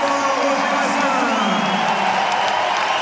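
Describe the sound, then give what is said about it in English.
The crowd on court Philippe Chatrier at Roland Garros gives the doubles champions a standing ovation, sustained, loud applause and cheering, a steady roar of clapping and voices throughout with no breaks. “A standing ovation for the champions, I'm sure a standing ovation for all, because that was a really compelling, competitive”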